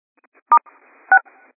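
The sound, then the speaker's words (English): Two short, clear telephone keypad tones, spaced about half a second apart, each a pair of steady pitches, with faint low background noise in between and no talking. “All right, I hear little beeps like someone's on.”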